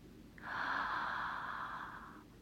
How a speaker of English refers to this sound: Deep breaths, baby, deep breaths. Follow my breathing, okay? Breathe in.